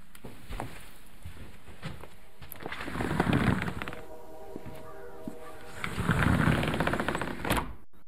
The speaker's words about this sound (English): Well, we hear the train going off into the distance.